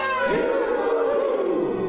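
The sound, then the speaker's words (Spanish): A voice imitates a howler monkey's howl, a loud, rough, sustained call lasting about two seconds with a wavering, gliding pitch, heard alone. “Entre saltos y piruetas, con su cola saludó el mono aullador, muy ronco terminó.”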